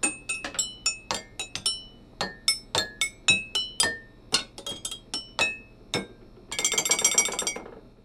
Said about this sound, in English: We could make up a beautiful symphony. A mug xylophone.